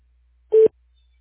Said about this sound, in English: At the tones, please record your message. When you've finished recording, simply hang up or press pound for further options.